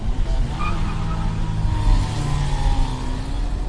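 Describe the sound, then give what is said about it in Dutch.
A car engine roars steadily while tires squeal in thin, high whines over the heavy rumble, like a street race in progress in the Ash. “Ik heb gelezen en mensen horen praten over de straatraces die plaatsvinden in de Ash.”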